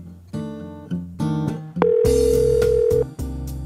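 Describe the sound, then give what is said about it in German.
A few short electronic telephone tones ring out in quick succession on a phone line handling registrations for horseback rides. Then a steady, fairly loud dial tone hums for over a second before cutting off, with no one speaking. “kümmert sich am Telefon um die Anmeldungen für die Ausritte.”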